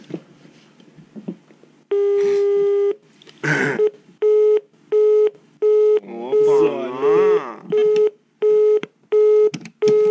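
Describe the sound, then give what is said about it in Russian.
A telephone tone pulses through a call: one long tone, then a steady run of short, evenly spaced beeps, fairly loud, with brief bits of voices in between. “Звонит. Мама позвонила ….”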